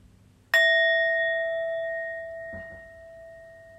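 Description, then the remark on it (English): A single meditation bell is struck once to begin a meditation practice, its bright, clear tone ringing on and slowly fading over several seconds, fairly loud with no talking. “So listening to the bells to take us in to the practice.”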